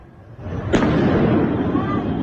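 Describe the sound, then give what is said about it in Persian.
A sudden sharp blast cracks out, followed by a rumbling, echoing roar that lingers under a steady wash of background noise, like a distant explosion. “این هم ویدیویی است که نشان می‌دهد انفجارهای داخل زندان اوین احتمالاً به علت شلیک پرتابه‌های نامشخص بوده است.”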